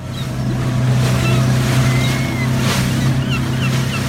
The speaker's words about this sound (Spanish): Una lancha avanza a toda velocidad entre olas e icebergs.